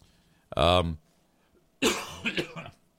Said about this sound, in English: This thing has been just lingering. Whatever it is, this crud that was in my system. It was 2 weeks ago Sunday, so now I feel the urge to cough.